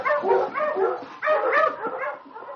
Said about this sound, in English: Well, we're still among the living, thanks to King and my dog team. I'll turn back now and follow the river toward Aklavik. All right, on, King! On, you husky!